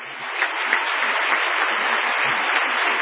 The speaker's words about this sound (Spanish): Un aplauso para la reina